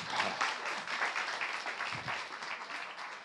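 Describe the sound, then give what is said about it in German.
Steady applause from a crowd, a dense wash of many hands clapping at a fairly even loudness throughout, with no voices standing out. “Vielen Dank. Applaus.”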